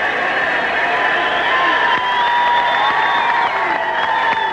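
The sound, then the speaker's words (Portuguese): A huge crowd in the Central Square of Cape Town roars and cheers without pause as Nelson Mandela greets it with his first words. It is a dense, loud wash of voices with whoops and shrill whistles rising above it and scattered clapping. “E é a euforia na Cidade do Cabo.”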